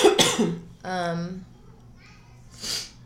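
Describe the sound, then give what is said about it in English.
Congested sounds from someone who is sick or has allergies: a harsh cough-like burst and a short voiced noise, then a quick, airy sniffle through the nose near the end. “Sorry for all the sniffling, guys. I'm low-key sick or allergies.”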